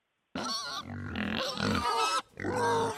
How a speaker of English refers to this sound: Do you have a pig in studio with you right now?